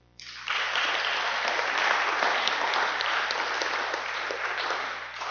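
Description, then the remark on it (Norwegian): A crowd breaks into steady applause, many hands clapping in a dense, even wash that swells quickly and holds for several seconds before easing slightly. “Jeg synes det lov å gi en klappe.”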